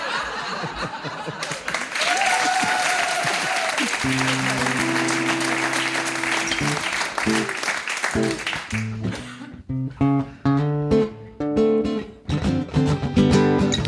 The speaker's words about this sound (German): Nein, meine Damen und Herren, beschämen Sie mich nicht mit diesem billigen Applaus.